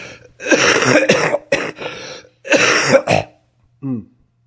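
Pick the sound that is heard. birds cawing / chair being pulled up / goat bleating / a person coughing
a person coughing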